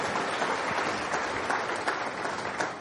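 A crowd claps for themselves steadily, a dense, continuous wash of many hands with small bursts of emphasis, sustained at an even, fairly loud level throughout.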